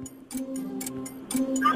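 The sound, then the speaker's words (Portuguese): A countdown timer ticking steadily during a one-minute quiz round, with evenly spaced ticks about every quarter second over a low continuous hum, moderately loud, with no voices. “10 coisas que encontramos numa autoestrada num minuto. Bora! Está a contar.”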